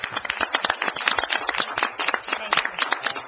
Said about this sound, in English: I think a round of applause is in order for the great work you've done. Thank you.